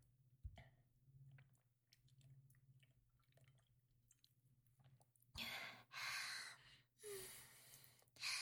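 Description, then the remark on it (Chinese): Quiet gulping and small wet mouth clicks as someone drinks in big gulps from an unscrewed bottle of mineral water, over a low hum, then three or four loud, breathy gasps for air. No one speaks. “现在管不了那么多就是了，只想拧开盖子，大口大口的喝。”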